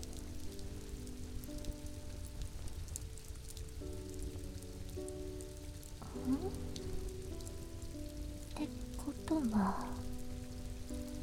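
Steady rain falls throughout, a continuous wash of patter with a dense low rumble, while faint tonal sounds drift in the background and a few brief chirps or squeaks rise near the end.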